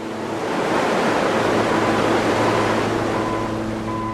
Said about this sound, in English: The snowpack releases its water by measured drops, where it begins a long journey across a vast watershed. It percolates through boulder fields and scree. It flows over sheets of granite and bursts over thundering waterfalls.